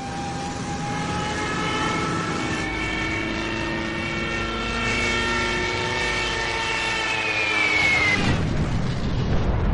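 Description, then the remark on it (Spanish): Stuka dive bomber engines roar loudly and continuously during an aerial bombardment of defenders, a droning whine with shifting pitch that breaks near the end into a harsher, broader rumble. No voices. “Los Stukas añaden a su precisión diabólica el terrible estruendo de sus motores.”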